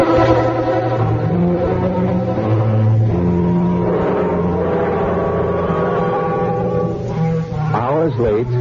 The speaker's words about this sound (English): train finally pulls into Athens.